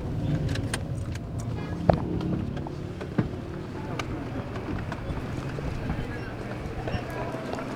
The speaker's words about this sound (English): Watch out for the cars.